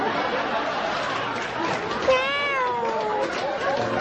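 A single drawn-out cat meow rises out of a murmur of background chatter, clear, its pitch sliding downward before fading after about a second.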